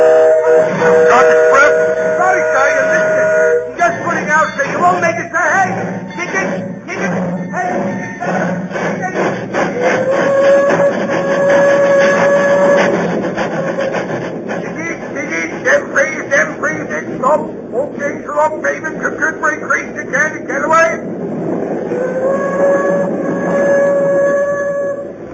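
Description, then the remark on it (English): A train rumbles and chugs steadily along, its whistle sounding long, loud blasts at the start, midway and near the end, with indistinct voices mixed into the busy noise. “Later, between Dalby and Newton Stewart, I pulled the emergency cord and jumped off the train.”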